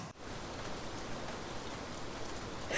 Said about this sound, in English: Now I'm stuck in a storm! Man, I could really use an umbrella! This rain is getting my coat all wet!